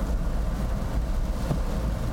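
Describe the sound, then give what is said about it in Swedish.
Steady, even rumble of rain and windshield wipers, a continuous low wash with a soft hiss on top and no distinct beats, holding at a constant moderate level with no voices. “Om ni hör någonting som ni inte riktigt vet, det kan vara regnet och vindrutetorkarna som låter också.”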